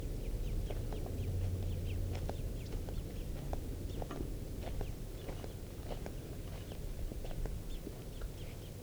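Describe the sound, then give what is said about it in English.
Birds call back and forth in a steady stream of short, high chirps and peeps, moderately close, over a constant low rumble of background noise with no talking. “It may just be two birds, the parent and the young.”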